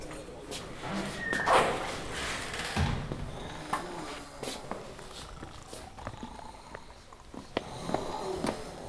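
A few soft, breathy sniffs taken in short bursts, smelling the scent of old novels among bookshops, over a low rumbling background with scattered faint clicks and taps.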